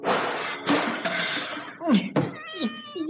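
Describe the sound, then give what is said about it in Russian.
A loud, clattering crash of a pendulum clock and a painted cat falling to the floor, with several noisy bursts, followed by a cat's sharp, drawn-out meows. “Она стала подкрадываться, потом прыгнула и маятник, и часы, и нарисованная кошка с ужасным грохотом и мяуканьем упали на пол.”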